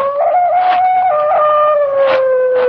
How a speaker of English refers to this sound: From somewhere across the lake, I heard the cry of a dog, and the sound of it filtered through and was carried along by the night air.